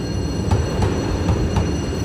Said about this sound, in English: We entered the station together and it didn't take long for the train to depart.